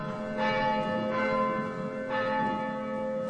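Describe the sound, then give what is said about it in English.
Double church bells ring in a steady, overlapping peal, with fresh strikes landing every second or so over a long, shimmering hum of ringing tones, rung by a nun at an abbey in Glencairn, Ireland, for the Feast of the Ascension. No voices. “On this day, Sister Michelle rings double bells for the Feast of the Ascension.”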